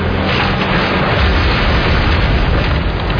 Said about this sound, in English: This is what life sounds like when you drop a bunch of landscaping blocks on the aluminum truck bed of the Ford F-150.